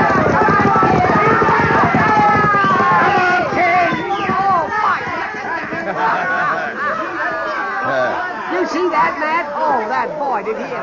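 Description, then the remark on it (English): A large crowd cheers and shouts loudly throughout, many voices overlapping, while rapid galloping hoofbeats drum underneath during the first few seconds of a horse race between a quarter horse colt and a thoroughbred. “Yeah, it was the colt by half a length. A quarter horse beat a thoroughbred.”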